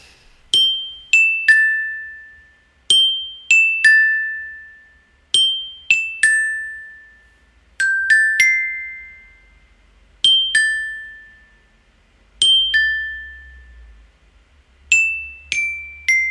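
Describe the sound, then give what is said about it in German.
A glockenspiel picks out a catchy melody in short repeating phrases of three or four bright struck notes, each ringing briefly before the next, played clearly and alone with no voices. “Die nächsten beiden Schnipsel sind auch auf dem Glockenspiel eingespielt”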